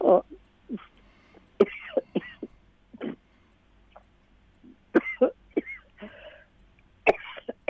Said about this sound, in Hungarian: Bocsánat. Semmi baj. Illetve hát nem örülök, hogy köhög, de... megvárjuk.